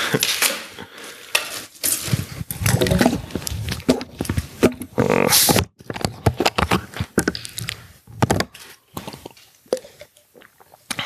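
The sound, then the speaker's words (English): Someone drinks a glass of water: a run of clinks and knocks from glass and tableware, a stretch of pouring or gulping, then scattered clatter and small sips. “First of all, I want to drink some water.”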